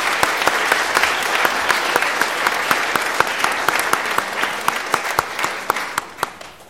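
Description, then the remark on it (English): An audience at a worship service breaks into sustained applause for a choir, a dense wash of many hands clapping with sharp individual claps standing out, holding steady before tapering off at the end. “They deserve a good nap and the applause that you gave them. Let's hear it again for them.”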